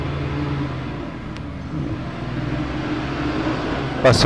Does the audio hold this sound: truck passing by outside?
yes